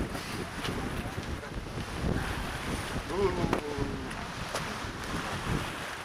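Steady, cold outdoor wind rushes and buffets across the microphone on a lakeside shore, with faint lapping of water and a brief low murmur partway through, continuous throughout.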